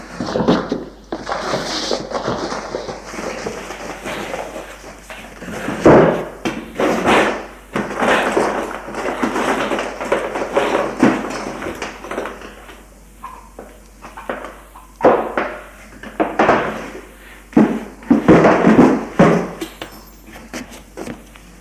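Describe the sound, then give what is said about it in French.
Drawers of a desk in a study are pulled open and pushed shut several times, with wooden thuds, sliding scrapes and the light rattle of loose contents, in an uneven rhythm. “J'allais ouvrir les tiroirs.”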